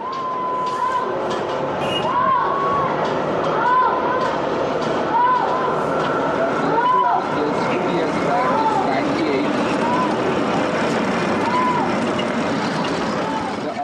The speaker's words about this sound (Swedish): Okej, det där var alltså någon järnvägsstation eller något sånt där.